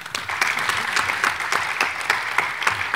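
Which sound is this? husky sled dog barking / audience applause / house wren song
audience applause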